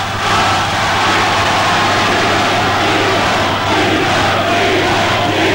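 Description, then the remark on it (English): A large crowd in a university hall in Fushihad roars and chants "Shehad" continuously as a warm-up, loud and dense throughout, echoing, with a steady low hum running underneath the collective voices. “got the crowd to scream Shehad or to chant Shehad.”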